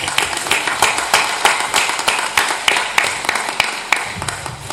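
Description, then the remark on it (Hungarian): Sustained applause from a crowd welcoming guests from Körmend, many hands clapping in a dense, steady patter with sharper individual claps standing out, loud throughout, no talking. “Egy nagy tapsot kérünk nekik.”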